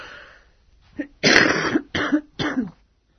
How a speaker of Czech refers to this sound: Ništa, kašljete, mala prehlada, sačekat ćemo pa da nastavimo, može.